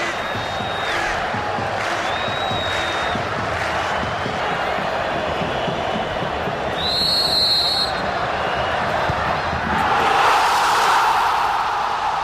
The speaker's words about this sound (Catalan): Entre aquests dos últims s'hi va situar Miquel Àngel Nadal per estorbar la visió del porter gallec del Madrid. Oriol va xiular i va sonar això.